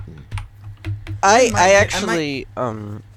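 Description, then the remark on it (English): Sharp, irregular key clicks of someone typing on a mechanical keyboard for about a second, then a voice speaks loudly over faint continued tapping. “Actually, the guy on the left might have a mechanical keyboard.”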